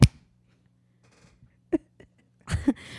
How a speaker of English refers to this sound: Let's do it one more time. I'm going to clap. My fingers are slippery.